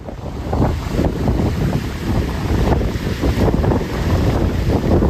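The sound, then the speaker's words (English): Howling, roaring hurricane-force winds of more than 230 kilometres per hour from a Caribbean hurricane batter the microphone in a continuous loud rush, with gusty surges and buffeting, no voices present. “That's the sound of winds of more than 230 kilometres per hour.”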